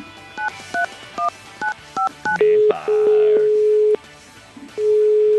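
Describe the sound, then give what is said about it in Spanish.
A phone call to the Instituto Medford being dialed in a quick series of short two-tone beeps, followed by a steady, mid-pitched ringing tone that cuts off briefly and starts again. “El último timbre y era lo inmediatamente.”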